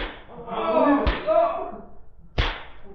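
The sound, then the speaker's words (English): Two sharp, loud whip lashes crack about a second and a half apart over a low strained voice that groans and murmurs between the strikes; a boss whipping exhausted workers in a mine. “Hand me that whip.”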